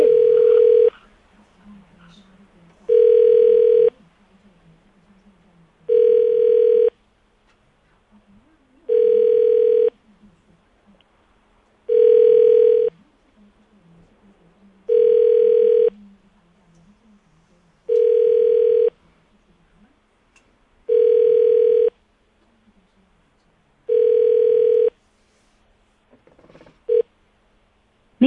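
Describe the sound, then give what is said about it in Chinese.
A telephone ringback tone repeats about ten times in steady, evenly spaced bursts with silent gaps between, a repeated call attempt ringing out unanswered, with faint background murmur underneath. “哦， 他都没接”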